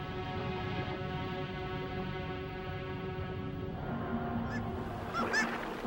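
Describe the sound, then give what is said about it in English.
A dense, continuous din of calls from a large Arctic seabird colony of fulmars, guillemots, kittiwakes and ivory gulls, harsh honking cries layered together, with a few sharper, higher squawks standing out near the end. “Arctic birds, fulmars, guillemots, kittiwakes, and ivory gulls survive on a diet rich in Arctic cod, while murres dive down as deep as 100 meters in search of fish and squid.”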